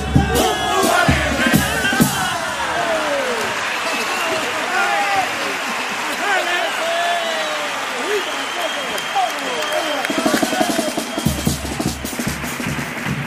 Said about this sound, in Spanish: Aplaudida, ¿eh?, la tanda de cumple